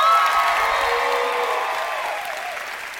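An audience applauds steadily for about three seconds, a dense clatter of clapping with a few whoops riding on top, slowly tapering off toward the end.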